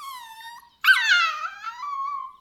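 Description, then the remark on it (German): A wolf in a video game yelps in pain as a player character kicks it: a long, high whine, a brief break, then a sharp, loud cry that slides downward into a wavering whimper, with no voices. “Ich stehe hier jetzt schon locker eine halbe Stunde und schau dir dabei zu, wie du auf die armen Wölfe eintrittst.”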